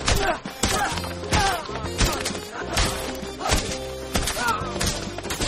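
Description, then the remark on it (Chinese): Whip lashes strike a person again and again, sharp, loud cracks landing in a steady rhythm about every half second or so, over a humming musical background. “你挨这么多鞭子都够当2次上帝了。”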